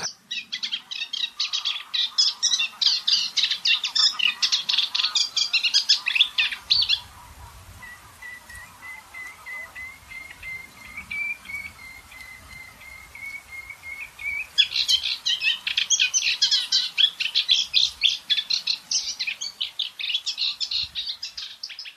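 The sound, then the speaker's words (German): A reed warbler sings in loud, steady, clockwork-like chattering phrases, pausing midway while a thin, sustained whistle runs underneath, then resuming its rhythmic churring song. No voices. “Ein Tipp also zum Unterscheiden ist, dass ein Deichhaussänger geht wirklich wie ein Uhrwerk, regelmäßig.”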